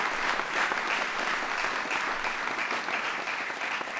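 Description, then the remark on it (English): Sustained audience applause for Coach Geno's mom, a dense steady wash of many hands clapping at an even loudness for the full four seconds, with no voices standing out. “So please give her a big round of applause.”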